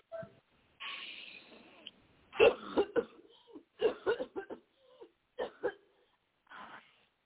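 A long, breathy inhale is followed by a burst of harsh coughing from several people, irregular and overlapping, fading into a few scattered coughs. The people take a deep breath and cough on a preacher's instruction during prayer in Jesus' name.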